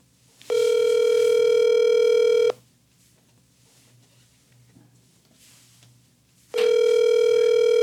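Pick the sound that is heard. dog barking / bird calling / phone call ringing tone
phone call ringing tone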